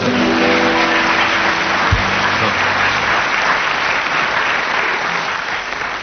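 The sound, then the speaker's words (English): Steady, dense audience applause for Tim Brooke Taylor fills the whole stretch, a broad wash of clapping that holds level and eases slightly toward the end, with a low tonal hum underneath early on. “Let's have a round of applause for Tim Brooke Taylor.”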